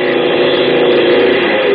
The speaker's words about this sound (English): Plane number 5, taking off for Anaheim, Azusa, and Cucamonga.